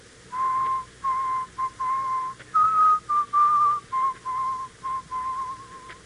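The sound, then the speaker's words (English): A man whistles the funeral march alone, a slow, mournful tune, each note a steady, clear pitch held in measured phrases with short gaps between them, fairly loud. “He whistles most of the time. And you know what he whistles? The funeral march.”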